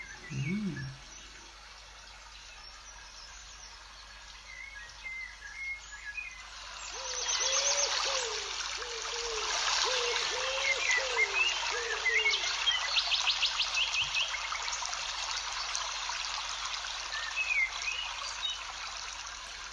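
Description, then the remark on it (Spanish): A babbling stream of crystal-clear water runs steadily throughout, its broad watery rush swelling louder midway, while birds call and chirp intermittently over it and a low hooting sounds near the start. “Seguimos paseando junto a un arroyo de agua cristalina. Escuchamos el sonido del agua.”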